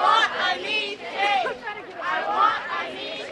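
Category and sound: crowd, marching crowd chanting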